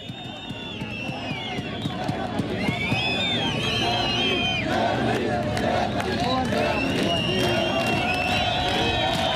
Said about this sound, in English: It says migrants were demonstrating outside the train station, shouting, "Germany, Germany!"